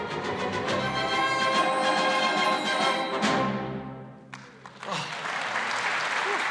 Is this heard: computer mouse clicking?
no